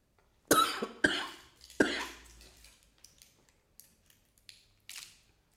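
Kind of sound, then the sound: human body sound, coughing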